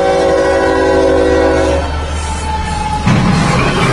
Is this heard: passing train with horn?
yes